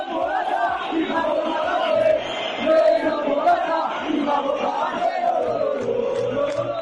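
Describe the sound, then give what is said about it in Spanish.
A large crowd of Atlético de Madrid supporters at the Wanda stadium chants in unison "Menos Morata y más Borja Garcés" and "vikingos no". It is a loud, sustained roar of many voices rising and falling in a sing-song melody, steady throughout with no single voice standing out. “Menos Morata y más Borja Garcés, gritaban, y vikingos no.”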